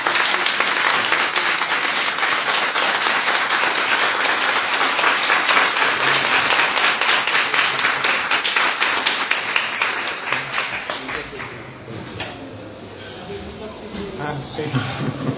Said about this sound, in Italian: Io mi permetterei, se possiamo, fare un applauso anche al professore.